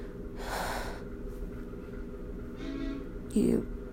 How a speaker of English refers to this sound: That's like a gravel truck outside because they're like bringing gravel to the backyard.